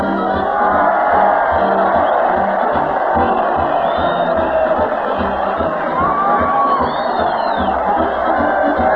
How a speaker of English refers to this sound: Listen to that crowd cheer Fred Allen as he leads the parade down Main Street to the Old Town Hall